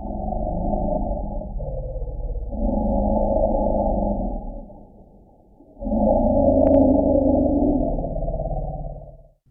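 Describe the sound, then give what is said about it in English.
Elephants greeting each other exchange deep, resonant, very low-frequency rumbles, two long overlapping rumbling calls separated by a brief lull, loud, with a hollow, almost underwater quality. “That's a greeting between elephants.”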